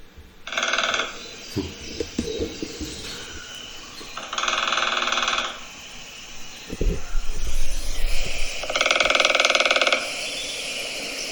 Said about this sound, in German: Hier kommt ein Trommeln vom kleinen Specht, fand ich total schön. Habe ich auch schon mal gehört.